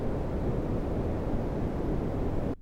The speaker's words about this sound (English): So green noise, they call the background noise of the world. And it is said to include rivers and oceans and all animal sounds, you know, kind of all jumbled together. This is green noise.